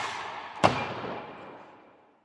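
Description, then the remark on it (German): A single sharp, loud shot-like bang cuts through a wash of hissing noise, then rings out in a reverberant tail that fades over the next second or so. No one speaks. “Schuss kommt.”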